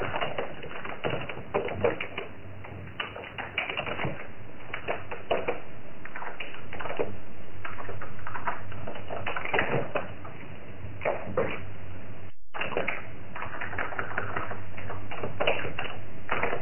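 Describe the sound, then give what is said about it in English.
Rapid keyboard typing clatters on and on in irregular bursts of sharp clicks, sounding roomy and echoey, with a brief dropout near the end before the tapping resumes. “Someone's typing in an echo chamber.”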